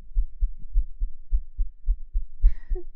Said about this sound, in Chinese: 喘气的声音再增加快一点的话，一般心跳就会变急促，好像科学上是这样子的吧。